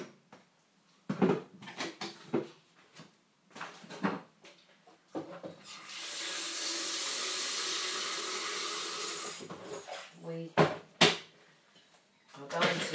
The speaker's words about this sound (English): And I'm going to put the kettle on for some tea.